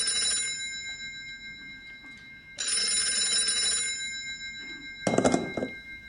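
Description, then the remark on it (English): An old-fashioned telephone bell rings twice in long, buzzing bursts separated by a short pause, followed by a brief clunk, with no one speaking. “Should we answer it?”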